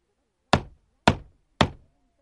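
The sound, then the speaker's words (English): Three firm knocks on a wooden door, evenly spaced about half a second apart, each a sharp thud with a short decay, followed by quiet. “He knocks on the door of Grandma's house.”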